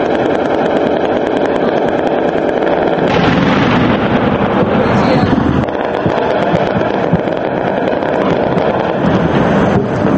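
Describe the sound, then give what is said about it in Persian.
Anti-aircraft machine guns of unidentified source fire in Tripoli, Libya, in sustained, rapid bursts, a dense rattling barrage that stays loud and continuous throughout, with sharper booming cracks rising in the middle and no voices. “صدای ماشیندارهای دافع هوا بدون اینکه منابع آن شناخته شود در پایتخت طرابلس شنیده شد.”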